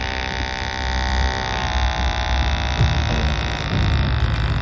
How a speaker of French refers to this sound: C'est le premier jouet, c'est le dernier, c'est le jouet qu'on a toujours avec soi. Enfin, je veux dire, 3 cm de diamètre pour une vingtaine de centimètres de longueur. Et les moteurs. En fait, on l'entend bien.